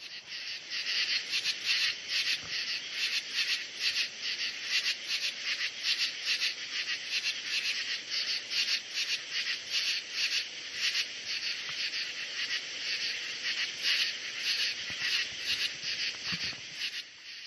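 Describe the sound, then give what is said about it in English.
A dense night chorus of true katydids calling in a backyard, rasping pulses repeating rapidly and continuously in a high, buzzy band, steady and loud throughout with no voices. “Those are the true katydids.”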